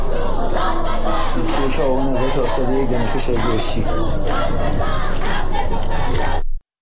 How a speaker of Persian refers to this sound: در دانشگاه بهشتی گروهی از دانشجویان شعار دانشجو داد بزن حق تو فریاد بزن سر دادند.